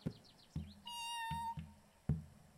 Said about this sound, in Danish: Ej, har du gættet det? Det er en kat.